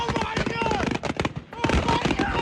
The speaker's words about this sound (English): During a 4th of July celebration in Sullivan County, Tennessee, the local volunteer fire chief says fireworks loaded onto a barge went off accidentally.